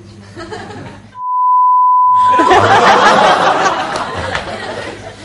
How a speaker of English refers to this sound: Okay, that's going to be beeped out.